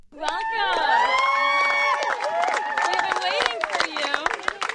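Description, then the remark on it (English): Camp counselors cheer and shout excitedly together as campers get off a bus at a summer camp on Cape Cod, loud, their overlapping whoops and calls sustained throughout, with some scattered clapping mixed in. “Campers look wary as they get off the bus clutching a favorite pillow or backpack, and counselors cheer their arrival.”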